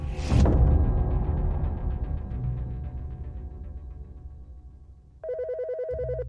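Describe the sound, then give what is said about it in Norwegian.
A heavy low impact fades into a long, dark droning tail, then a telephone on a bedside table in a home in Oslo, Norway, starts ringing near the end, early on a Sunday morning in January 1991, with a loud, rapidly warbling electronic trill. No one speaks. “Tidlig søndag morgen 13. januar 1991 ringte telefonen på nattbordet hjemme hos avdelingssjefen for personavsnittet ved Oslo politikammer.”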